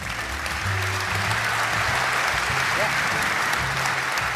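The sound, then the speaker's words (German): Steady, dense applause from a crowd for footballer Zoltán Sebescen, a continuous wash of clapping that holds at an even loudness throughout, with low murmuring voices underneath. “Zoltán Sebeskin, ich finde, er hat einen Applaus verdient.”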